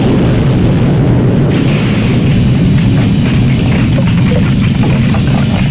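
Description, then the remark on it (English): An explosion-with-debris sound effect: a loud, continuous low rumble and roar that stays steady for several seconds, more like a sustained blast than a sharp boom, with no voices. “Here is explosion with debris.”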